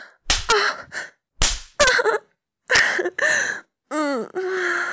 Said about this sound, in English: Even with such a tiny ass, it jiggles with a slap.